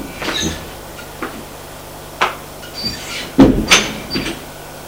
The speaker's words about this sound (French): Arrivé au premier étage, il longe un petit couloir. Frappe à une porte et entre.